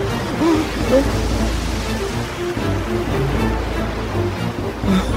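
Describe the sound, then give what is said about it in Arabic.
A stormy sea with high waves in a severe storm roars in a dense, continuous wash of rushing water and wind, loud, with heavier surges swelling briefly near the start and again at the end. “الأمواج عالية.”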